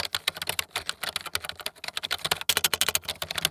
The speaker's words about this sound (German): Er öffnet Word und tippt alle Informationen ein, die für seinen zukünftigen Job nützlich sein könnten.